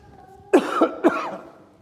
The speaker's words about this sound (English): This is a sympathy vote. I've had a cough all this week. It's worse than that.